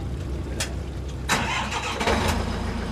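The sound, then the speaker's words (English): A high-pressure washer, just imported from Japan, starts up on a boat docked on Portland's waterfront in Maine to wash live scallops: a low engine rumble, then a sudden loud burst of hissing roar that keeps running steadily. No one speaks. “On a boat docked on Portland's waterfront, he and a gaggle of young men from several Maine shellfish farms run live scallops through a high-pressure washer.”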